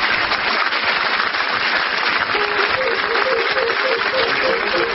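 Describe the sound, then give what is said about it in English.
Sustained studio audience applause at the close of an edition of the radio panel show Just a Minute, for this week's winner, Clement Freud: a dense crackle of many hands clapping at a steady loudness, with a faint voice or tune briefly rising under it toward the end. “On behalf of our winner, very much for that applause.”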